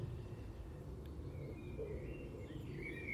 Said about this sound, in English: I don't have nightingales, but I have the next best thing. That blackbird, or any blackbird,